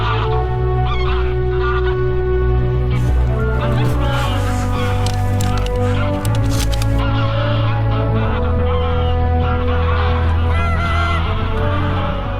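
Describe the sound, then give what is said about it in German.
A dense chorus of geese honking continuously at the Wadden Sea during a goose hunt, many birds calling over one another in a loud, overlapping clamour with no pauses, as of a large flock. “Und zwar für den Film Gänsejagd am Wattenmeer. Wir hören sie schon.”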